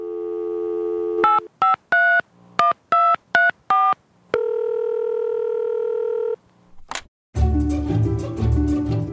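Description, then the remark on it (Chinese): A steady dial tone gives way to a quick series of about seven touch-tone keypad beeps, then a longer held tone, a sharp click, and a burst of line noise, as the first phone call of the day is put through to a radio call-in counselling hotline. “现在来听听今天第一通的电话。”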